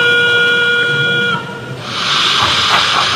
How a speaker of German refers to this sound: Durch die Digitaltechnik können nicht nur viele Züge gleichzeitig über eine Anlage fahren, sondern klingen auch noch täuschend echt. Und zwar nicht durch irgendwelche Lautsprecher, sondern direkt aus dem Zug.